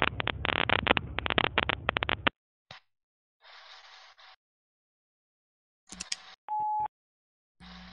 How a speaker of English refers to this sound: Rang more than last time. He's not instantly voicemail. Leave a message at the beep.